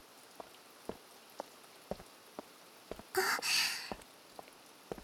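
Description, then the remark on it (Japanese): Steady rain patters down with scattered distinct drips landing, and a soft breathy exhale or sigh rises briefly in the middle. “外へ出るのを遠慮しちゃうから、いろんなデートスポットが行きやすくなるし、少し見方を変えれば雨ってとっても素敵なもの。”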